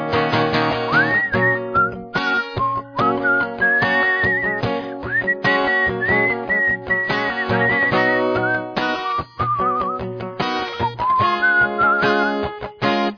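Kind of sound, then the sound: human body sound, people whistling a tune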